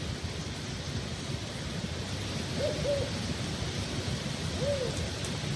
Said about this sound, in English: Oh yeah, that's it. I guess that's it. You know, there's your northern spotted owl.